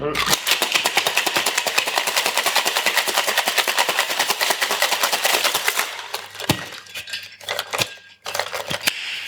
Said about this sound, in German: So, jetzt gibt es Shake-Geräusche.